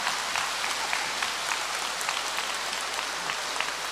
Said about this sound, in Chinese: 鼓掌。